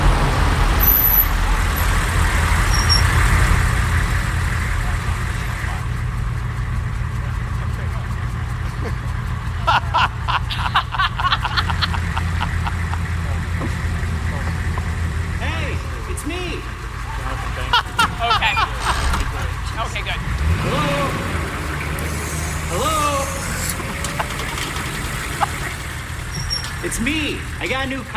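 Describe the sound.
A truck engine rumbles steadily amid continuous road traffic, with a low droning hum throughout, occasional brake hisses and indistinct voices in the background.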